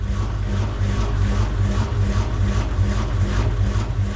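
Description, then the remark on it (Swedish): A washing machine drones with a heavy, steady low rumble and a rhythmic whooshing pulse about every half second, sounding strained and unhealthy, with no voices. “Nu lät det ju inte som att tvättmaskinen i det här klippet mådde särskilt bra.”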